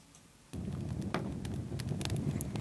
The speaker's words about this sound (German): Die Feuersbrunst ist wieder da. Dann ist es einfach keine Stille mehr, denn es ist ein gemütliches Feuer, was ein Stadtviertel zugrunde richtet.